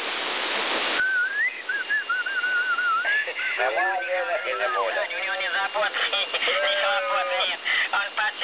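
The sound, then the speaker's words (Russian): A burst of hiss gives way to a person whistling a wavering tune for a couple of seconds, then voices talk over a noisy background, with a faint whistle line continuing beneath. “Да, тут свистит какой-то бандеролог.”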